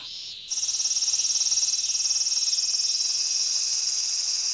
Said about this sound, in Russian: Красиво цикады стрекочут.